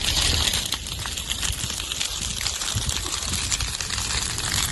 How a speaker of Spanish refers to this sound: Al filo de la medianoche se dio la alarma de evacuar Ferreras de Arriba. Esto es el fuego, se escucha, pero finalmente no fue necesario.